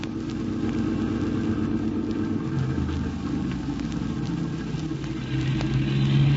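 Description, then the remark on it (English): A car engine hums over a steady road rumble, the droning tone swelling slightly louder near the end as a car passes on a highway. No voices. “Did you notice that car? The one that just passed?”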